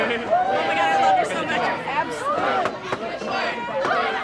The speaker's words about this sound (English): It was hard to get on tape because of all the shouting, but you can kind of hear it. The FOs were saying things to Warren like, I'm so inspired. This is the most rewarding thing I've ever done.